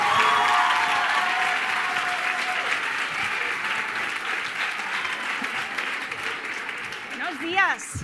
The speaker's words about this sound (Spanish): no se me ocurre alguien mejor que presentaros a la directora de Recursos Humanos de Microsoft Ibérica. Un fuerte aplauso para Luisa Izquierdo.